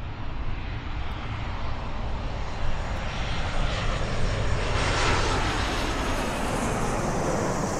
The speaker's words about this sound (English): For anyone traveling at just the right time on I-95, just south of the 595 interchange, you recognize that sound. It's the roar of a Southwest Airlines Boeing 737 on final approach, just seconds away from landing on runway 10 left, 28 right